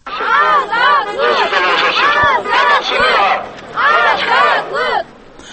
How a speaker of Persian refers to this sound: مخالفان تقاضا می‌کردند که در این کشوری خودکامه آزادی بیان و مطبوعات تأمین شود. آنها تکرار به تکرار آزادی شعار می‌دادند.